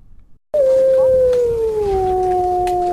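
A single wolf howls loudly, a long sustained tone that starts abruptly after a brief silence and slowly slides lower in pitch, with faint background noise.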